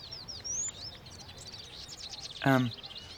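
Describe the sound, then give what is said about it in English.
Small birds chirp and twitter continuously in quick, high overlapping calls, fairly soft, with a brief voice-like sound cutting in near the end. “let's get to the birds.”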